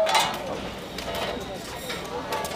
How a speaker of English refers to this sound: Transfer the computer, push the button, this way is moving, and then bending the shape. The outline. It starts bending and cutting the metal that will eventually be turned into an LED line character.